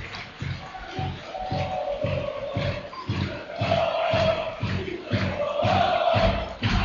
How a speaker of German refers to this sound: Und die Zuschauer merken, der WSV braucht die Hilfe. Applaudieren jetzt. Feuern jetzt an.